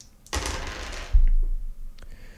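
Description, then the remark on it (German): Dice clatter across a hard desk in a short rattling roll, then land with a dull thump, followed by a couple of faint clicks, with no talking. “Ich mach mal einen ersten Wurf, ne?”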